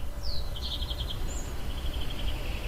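Birds chirp on a terrace in a quick series of high, bright tweets, with a faint steady trill continuing behind them over low background rumble and other sounds in the distance.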